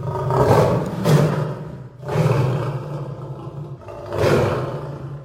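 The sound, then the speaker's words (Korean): A caged lion roars loudly several times as it lunges fiercely when its cage door is opened, deep rumbling bellows swelling and fading in a steady rhythm, powerful with no voices present. “하지만 우리문을 열었을 때 사자는 크게 울부짖으며 마녀 앞으로 무섭게 달려들었다.”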